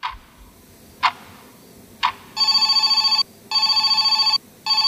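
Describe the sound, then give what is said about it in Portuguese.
A telephone bell rings in three loud, rattling bursts, each just under a second, after a few sharp clicks of someone dialing a mobile phone number. No one speaks. “Ele discou o número do telefone do celular de Emanuel e esperou.”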